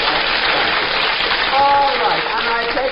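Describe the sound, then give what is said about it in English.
A crowd applauds with dense, steady clapping that holds a loud, even level throughout, and a voice briefly speaks over it partway through. “I like a little applause for that one.”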